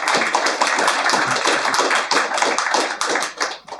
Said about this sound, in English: Can we start with a round of applause for our panelists, please?